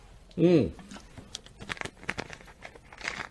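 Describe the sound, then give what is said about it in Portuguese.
A short voiced tonal sound rises and falls, then a plastic bottle, its label covered, crinkles and crackles in quick, irregular bursts as someone drinks water straight from it. “Meu amor, que está me ouvindo, traga-me um copo, porque farei uma coisa muito deselegante agora, que é beber água na garrafa, né?”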